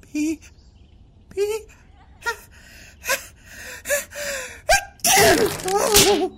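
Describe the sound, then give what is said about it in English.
A run of short, halting gasping breaths builds up over several seconds, then breaks into one loud, explosive sneeze near the end. “I'm sure just one more little sneeze and it's gonna make everything just fall to pee.”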